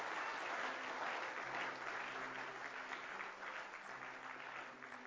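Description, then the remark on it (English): A church audience claps together as praise to the Lord in a sustained, dense round of applause, steady and loud for the whole clip with no voices rising above it. “Let's give the Lord a hand clap of praise in the house of God.”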